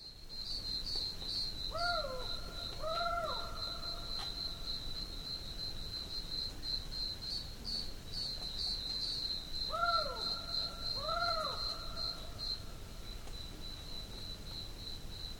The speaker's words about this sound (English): the barking owl pretty much has a call that is like a scream, a very terrifying kind of piercing shriek